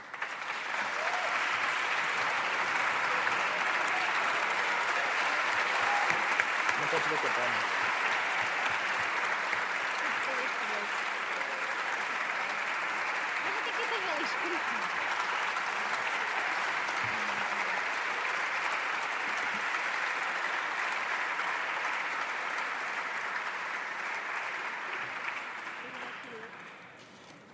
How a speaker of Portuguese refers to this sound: Proponho que aprovemos este texto por aclamação, isto é, com um grande aplauso, para dar mais força a esta recomendação aprovada a nível nacional.